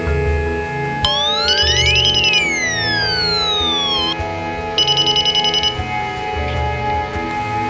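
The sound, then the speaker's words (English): An electronic door chime from a wireless home security system, demonstrating its door chime feature: a bright tone sweeps up and back down over a few seconds with quick beeping pulses, then a second short burst of beeps. “First, I'm going to show you the door charm feature.”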